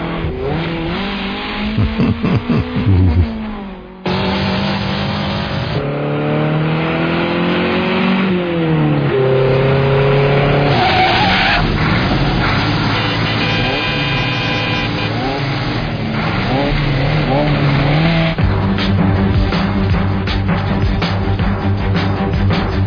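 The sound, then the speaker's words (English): A loud, continuous car chase: engines roar and rev up and down in pitch, with screeching tires cutting through the dense, busy racket throughout. “Well, it's very difficult these days to do a motor car because any kind of car chase because it's been done so often, isn't it?”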